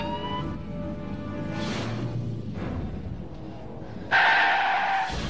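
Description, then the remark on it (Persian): A black Voyager van rumbles and races past as it flees along Gorgen Street, ending in a loud, sharp burst of high-pitched tire squealing as it skids, with no voices present. “سوشه داره از طریق خیابان گورگن فرار میکنه. یه ون سیاهه مارک وویجر.”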